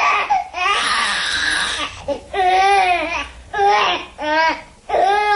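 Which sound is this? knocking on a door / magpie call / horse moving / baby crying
baby crying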